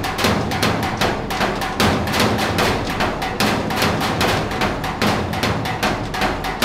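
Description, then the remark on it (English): Steady, loud hammering by a performer in a mask and earmuffs on one of two blue metal dumpsters set up in an empty lot for a show, with sharp clanging blows landing about three times a second for several seconds, ringing over a constant low rumble. “While Thor hammers away, wearing a mask and those big earmuffs you see on construction sites”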